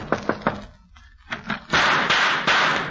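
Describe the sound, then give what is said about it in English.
Three quick, sharp knocks on a wooden house door at night, a short pause, then two more raps, followed by a louder, noisier stretch with a few heavier thumps, with no talking. “I shall knock on the door.”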